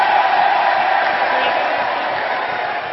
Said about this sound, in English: Okay, this is the Liz Truss roar we can hear behind me. Oh, is that her? There she is.